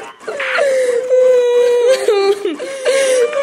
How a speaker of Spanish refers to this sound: Llegado el llanto, se tapará con decoro el rostro usando ambas manos con la palma hacia adentro. Los niños llorarán con la manga del saco contra la cara y de preferencia en un rincón del cuarto. Duración media del llanto, 3 minutos.